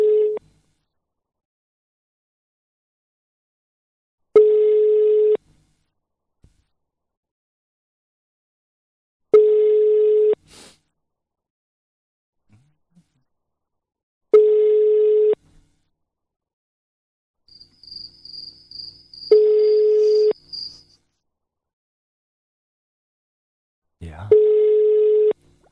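phone call ringing tone

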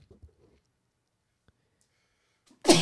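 sneeze

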